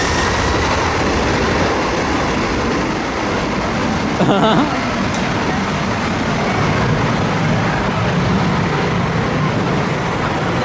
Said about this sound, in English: Yeah, you're the idiot that decided to stand behind a plane as it was taking off. And I'm pretty sure there's signs there that say, do not do this.